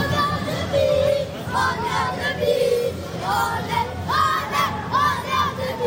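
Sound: football supporters cheering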